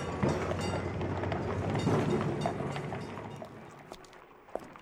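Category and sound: vehicle, tram running on rails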